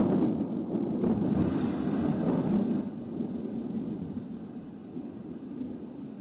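thunder rumbling

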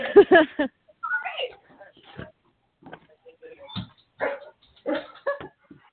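dogs barking

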